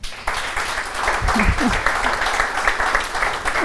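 An audience applauds steadily, a dense wash of many hands clapping at a fairly loud, even level throughout, with a few low murmuring voices briefly audible underneath.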